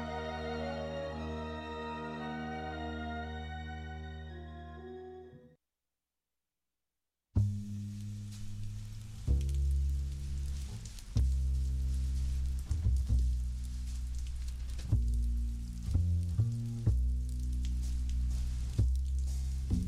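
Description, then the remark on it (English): A sustained musical chord fades into a brief silence, then heavy rain pours in as a dense, steady hiss with low rumbling undertones and occasional louder spatters, continuous. “It's a wet Saturday. Never saw it rain harder.”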